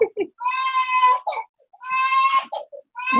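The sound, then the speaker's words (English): A 2-year-old toddler girl screams in a hallway: loud, high-pitched, sustained wails in three long bursts separated by brief gasping pauses, with no other voices. “My 2-year-old is like screaming in the hallway.”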